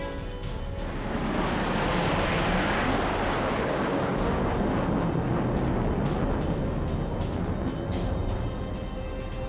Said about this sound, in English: Wonder Woman flies her plane in for a closer look.